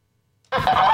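After a brief silence, geese suddenly start honking loudly, a dense, harsh cluster of overlapping calls that continues without a break until the end.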